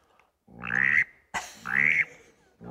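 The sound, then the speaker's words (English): A duck call blown to imitate a mallard drake gives two drawn-out, raspy, buzzing notes and the start of a third, loud with short pauses between and no talking. “And the mallard drake is like this.”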